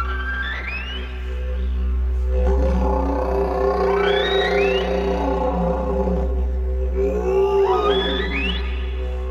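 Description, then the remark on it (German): A didgeridoo's deep, steady drone underlies rising, swooping high whoops and moans, played on the didgeridoo to imitate the song of whales that pass along the coast of southern Australia, repeating in several sweeping calls over about nine seconds. “Sogar den Gesang der Wale, die im Süden Australiens an der Küste vorbeiziehen, kann man auf dem Didgeridoo nachmachen.”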